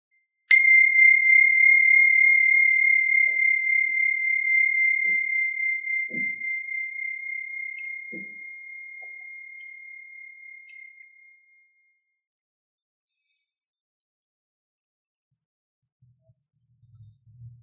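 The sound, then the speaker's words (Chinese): A single meditation bell is struck once to begin a meditation practice, ringing clear and bright, its tone shimmering gently as it slowly fades over about ten seconds into near silence. “当听到铃声的时候，可以先用两三个深呼吸，把注意力带回到身体上。”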